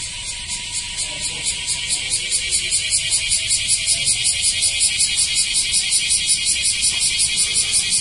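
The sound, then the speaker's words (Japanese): A dense chorus of bear cicadas (kumazemi), some calling nearby and others from farther off, fills the air with a loud, rapid pulsing "washi-washi" buzz, rhythmic and continuous throughout, with faint low rumble beneath and no talking. “このワシワシ言うてるクマゼミとかどんだけ腹鳴らしとんねん感じですね。”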